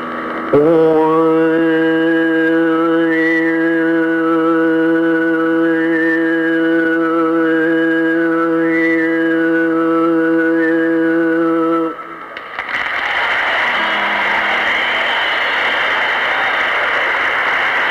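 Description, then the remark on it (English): A steady low buzzing drone carries a thin, high whistle-like tone that rises and falls in a simple melody for about twelve seconds, then gives way to a loud hissing noise. “Now listen real close, way up high, you hear this little thing that sounds like a whistle, and that plays the melody.”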